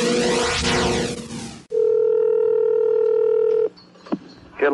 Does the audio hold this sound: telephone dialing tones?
yes